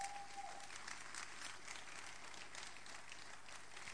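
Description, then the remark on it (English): Harvest House audience members applaud steadily for about four seconds as a welcoming clap offering, a dense, even wash of many hands clapping at once with no voices on top. A brief high tone sounds at the very start. “I'd like the Harvest House members to welcome you, especially with a clap offering.”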